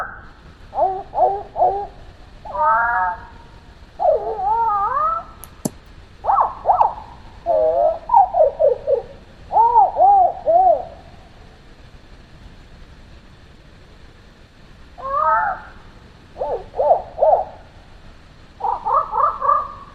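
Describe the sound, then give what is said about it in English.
A screech owl gives repeated quavering, whinny-like calls in short clustered bursts, separated by brief pauses and a longer quiet gap, sounding clear with no voices. “Then we've got the screech owl.”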